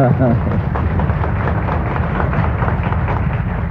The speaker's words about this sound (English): I think we can all say, I'm sure Nation would appreciate that applause you're about to give.